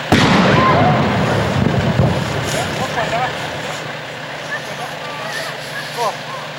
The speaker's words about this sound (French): Il y a aussi pas mal d'artistes qui travaillent sur l'explosion. Enfin, je ne sais pas si ça ressemble vachement à ça.